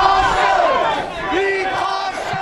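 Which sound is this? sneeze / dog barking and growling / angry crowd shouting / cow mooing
angry crowd shouting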